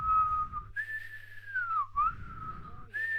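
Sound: whistling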